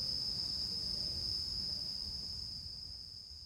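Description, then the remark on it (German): A steady, high-pitched drone of cicadas, listened to from a window, fills the air continuously, a thick shimmering buzz over faint low background rumble, fading slightly toward the end. “Jetzt setze ich mich mit einem Tofu-Klumpen und einem Bier in mein Fenster und höre den Zikaden zu und denke so über das Leben nach.”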